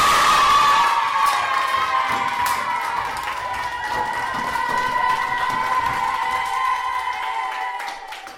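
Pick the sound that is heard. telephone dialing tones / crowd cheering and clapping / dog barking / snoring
crowd cheering and clapping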